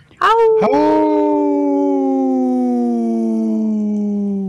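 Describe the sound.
Two people howl like wolves on a Civic Media radio broadcast, a loud sustained vocal tone that sweeps up quickly at the start and then holds, sinking slowly in pitch for about four seconds.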